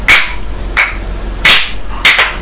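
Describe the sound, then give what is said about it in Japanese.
Wooden clappers struck four times at a steady, even pace for a fire-watch call ('hi no yōjin'), each a loud, sharp, bright clack with a brief ringing tail. No voices are heard. “ひなよじん。トントンコ2回。”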